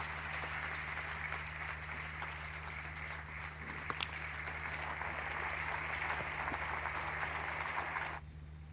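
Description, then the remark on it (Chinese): An audience applauds steadily for about eight seconds for a man who came to the gathering, a dense wash of clapping that holds level and then stops abruptly, leaving only a low hum. “要给他使劲的鼓掌，他能来这儿。”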